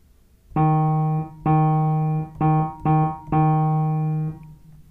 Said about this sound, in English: Choose any high note on the piano. I will play a short forte rhythm on one of the keys. You echo what you hear me play.